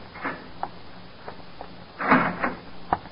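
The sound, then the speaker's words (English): A heavy jail cell door is opened by a police lieutenant in the morning: a few metallic clunks and clicks, then a louder grinding scrape as it swings, ending in a sharp latch click. No voices. “When you open your eyes again, the morning light is streaming in through the window, and the same polite police lieutenant is opening the door to your cell.”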